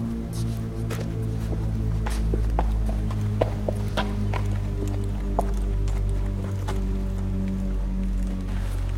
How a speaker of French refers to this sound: on vient de voir passer un cheval. La Morlaix est connue pour son centre hippique aussi.